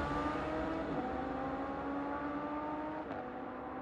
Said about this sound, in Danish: Han bliver ligesom hævet ud af bilen og står helt forhutlet og forslået tilbage, mens den her Ferrari kører fra stedet med Karen-brødrene i.